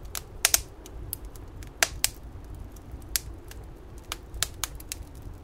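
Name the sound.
crackling fireplace fire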